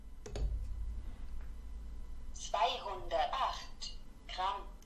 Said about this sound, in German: So, erstmal werden wir begrüßt mit einem freundlichen Hallo und dann sagt sie Nullrückstellung an. Ich lege jetzt mal zum Beispiel mein Handy auf diese Waage.